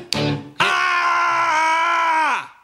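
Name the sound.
a person screaming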